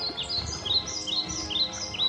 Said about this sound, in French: Et il entend le bruit des oiseaux.